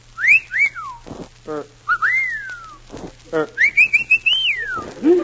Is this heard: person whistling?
yes